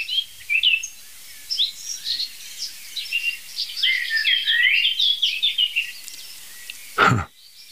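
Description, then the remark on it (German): A blackcap and a blackbird sing continuously in the open air, fast bright phrases overlapping with lower fluted notes, with a brief sharp knock near the end. “Und jetzt gerade ist die Mönchskassbrücke dazu wach geworden, die etwas schnellere Amsel.”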